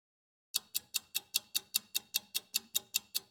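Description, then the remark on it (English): A clock ticks steadily and crisply, about fifteen sharp, evenly spaced ticks in a quick regular rhythm, clear with nothing else behind it after a brief moment of silence; it is the clock Scrooge watches while lying in his bed. “Scrooge watches the clock.”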